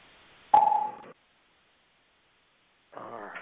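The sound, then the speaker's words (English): A single conference-call join beep as someone joins the call, a short clear electronic tone starting with a sharp click, fairly loud. A pause of silence follows before someone starts talking. “All right, someone else joined us, I think. I heard a click or beep.”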